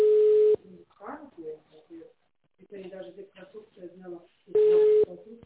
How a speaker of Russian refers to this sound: Вообще хоть кто-нибудь трубку возьмет